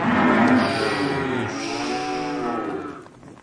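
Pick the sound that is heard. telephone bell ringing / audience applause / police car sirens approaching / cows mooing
cows mooing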